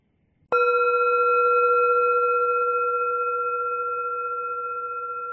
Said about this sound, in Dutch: Als je de bel hoort, begint de meditatie.